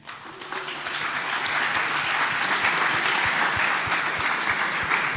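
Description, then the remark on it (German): Sustained applause at an event, the audience applauding itself, a dense wash of many hands clapping that swells in the first second and stays loud and steady to the end, with no speech over it. “Deswegen würde ich euch ein zweites Mal bitten, gebt einen Applaus an das Publikum, weil ihr macht die Veranstaltung.”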